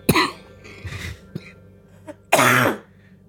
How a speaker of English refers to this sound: No, that was just me trying to laugh and then coughing.